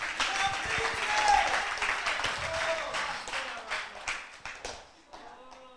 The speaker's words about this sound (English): Yeah, you can clap.